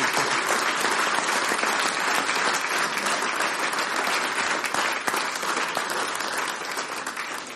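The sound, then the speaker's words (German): Sustained applause from a concert audience for the technical crew, dense and steady clapping at a fairly loud level for several seconds, tapering slightly toward the end, with no one speaking. “Und ich glaube, unsere Technik hat sich in Anbetracht dieser Umstände auch einen ganz besonderen Applaus verdient.”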